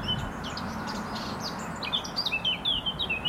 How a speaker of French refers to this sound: Et je vais rajouter l'oiseau qui chantait, là. C'est la fauvette à tête noire. Elle a une voix qui est un peu comme le merle, un timbre assez fort. Et la phrase est assez longue. Et elle pose une question à la fin. Le ton monte.